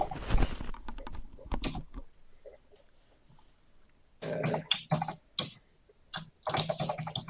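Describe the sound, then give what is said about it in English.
Rapid bursts of computer keyboard clicking, fairly loud, in two flurries of typing separated by a quieter pause of a couple of seconds, with no voices. “Drum roll, keyboard clicks.”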